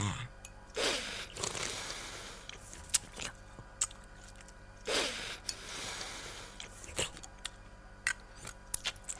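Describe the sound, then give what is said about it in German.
Two drawn-out, wet slurps rise and fade, with sharp little clicks of a spoon tapping against teeth scattered between them. Fairly quiet, with no talking. “Kannst du mal weniger schlürfen und nicht immer gegen deine Zähne hauen mit dem Löffel?”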